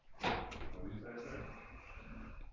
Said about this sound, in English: I'm pushing in all the chairs.